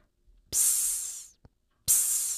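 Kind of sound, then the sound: sound effect, steam hissing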